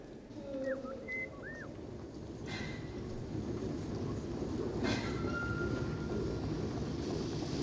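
A train, express number 29 to Turku harbour departing from track 4 at 7.40, rumbles steadily at a station, a broad low roar that swells slightly, with brief squeals and whistle-like tones cutting through early on and a couple of sharp bursts midway.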